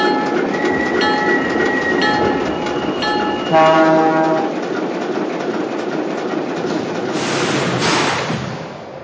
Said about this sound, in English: Now running from Chicago on track number 1, train number 17, the California Zephyr.